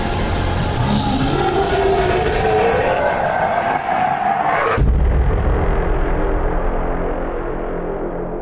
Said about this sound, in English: As it crashes in, looks around at the carnage around, with saliva dripping out of its enormous shark teeth filled maw. Teeth like jagged fence posts as the saliva drips to the ground. It unleashes a monumental roar that shakes all of you to the core.